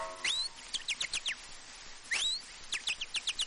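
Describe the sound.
A person whistles an imitation of a chaffinch song: two bright, high phrases, each a rising sweep followed by a quick descending series of chirpy notes, clear with no talking.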